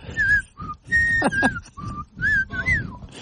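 A person whistles a short, wobbly tune in uneven bursts, with breathy, airy notes that waver and slide off pitch, sounding fairly loud with no one talking.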